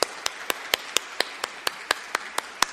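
A round of applause: a steady hiss of clapping hands with one set of sharp, evenly spaced claps standing out in a quick, regular rhythm. No one speaks.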